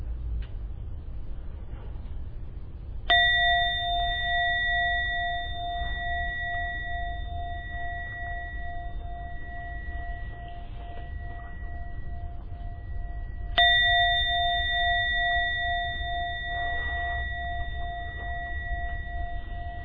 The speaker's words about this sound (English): I'll be ringing to gong 3 times for you to slowly come out of your meditation.